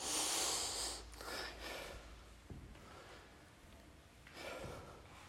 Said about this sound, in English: Stabilize that breathing.